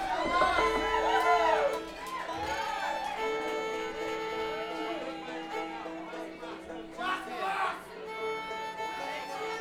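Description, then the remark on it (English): A lively crowd at a concert yells and cheers, with scattered clapping, as many overlapping voices rise and fall over a steady sustained musical drone, fairly loud throughout. “Come on, this is a concert. You're not supposed to yell and clap and shit.”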